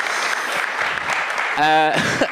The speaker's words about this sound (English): We did get some applause. We did get applause. Hurrah!